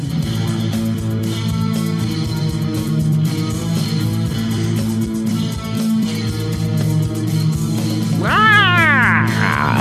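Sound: cat meowing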